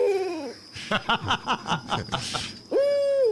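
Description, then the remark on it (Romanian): An owl calls with no talking: a sliding, descending hoot, then a rhythmic run of quick pulsing notes, and finally another clear, sustained tonal cry. “Asta e o bufniță care a căzut? O bufnițică.”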